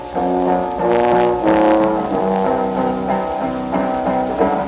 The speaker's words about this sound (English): This is a warning. Step away from the car. This car is protected by Viper.